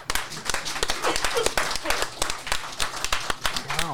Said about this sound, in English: Wow, a completely natural slow clap from the audience for that